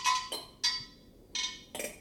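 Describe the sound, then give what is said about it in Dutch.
Ceramic earthenware elements clink together in a few bright knocks, each leaving a short ringing tone that fades quickly. The strikes come at an uneven pace, with no voices. “En er zijn ook, en dat zijn de grootste objecten, dus ik ook een paar kleinere, zijn de keramische elementen. Die hoort u nu ook klinken.”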